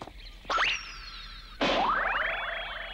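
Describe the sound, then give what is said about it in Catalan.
Two cartoon boing sound effects in quick succession: a short springy twang, then a louder wobbling boing that sweeps upward in pitch and rings on until the end, as a dragon ball dropped by a playing monkey falls onto a Red Ribbon Army soldier. “Jugant, un dels micos perd la bola que cau sobre el soldat.”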